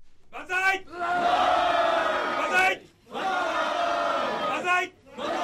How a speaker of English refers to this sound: At Liberal Democratic Party offices across Japan, the banzai cheer went up.